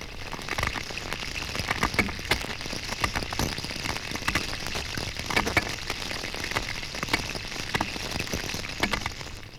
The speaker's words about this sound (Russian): У руленой зеленушки цоканье переходит в скрежет.